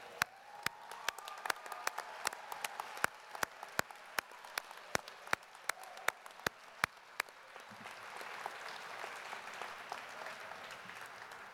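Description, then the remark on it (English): An audience applauds as new attorneys stand to applaud those who supported them, a steady wash of many hands clapping. For about seven seconds, loud, evenly timed claps cut through it, then the applause swells and carries on without them. Nobody speaks. “And now it is time for all the new attorneys to stand and applaud all of those who've come this long, hard journey with all of you, who have supported you.”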